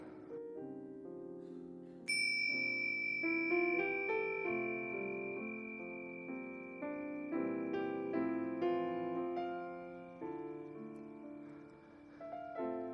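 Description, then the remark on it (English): A single bright meditation chime is struck at the start of a meditation and rings out with a long, shimmering sustain, layered over a soft, steady bed of calm ambient music. No one speaks. “And ring the chimes.”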